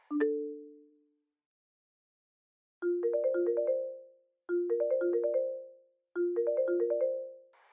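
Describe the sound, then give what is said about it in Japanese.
A melodic phone ringtone for a call from a manager plays alone: a single chime, a pause, then three repeated bursts of bright, rising electronic notes in a steady pattern, clear. “マネージャーから電話だ。”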